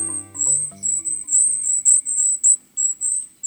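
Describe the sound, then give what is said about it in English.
Golden-crowned kinglet in a forest giving thin, silvery, very high-pitched calls in a rapid series of about ten short bursts, with a faint low tonal hum fading out at the start. “These thin, silvery calls coming from the forest belong to a survivor, the golden-crowned kinglet.”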